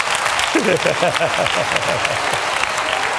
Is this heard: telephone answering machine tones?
no